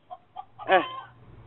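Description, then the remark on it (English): A chicken clucks outdoors: two short soft clucks followed by a louder, drawn-out squawking cluck, with a low hum in the background and no talking. “There's a chicken outside.”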